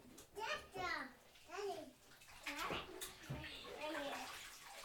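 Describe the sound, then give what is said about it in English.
Water splashes and trickles in a bathtub as it is squeezed out, while a child chatters in high, sing-song bursts over the wet, echoing bathroom noise. “I have lots of water this time. Need a lot of squeezing.”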